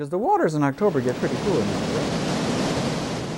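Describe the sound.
A brief voice rises at the start, then a waterfall's steady, loud roar of rushing water takes over and continues evenly to the end.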